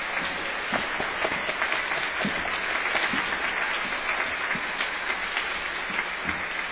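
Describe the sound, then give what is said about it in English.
A crowd at Old South Church applauds the church school director steadily, a dense wash of many hands clapping at a consistent loudness throughout, with no voices rising above it. “Just come out here for a round of applause.”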